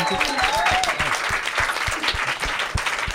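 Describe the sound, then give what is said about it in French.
An audience applauds the rock critics steadily, a dense wash of many hands clapping at once, with a few faint whistles or cheers rising over the sustained applause. “Est-ce qu'on peut applaudir ces magnifiques rock critiques ?”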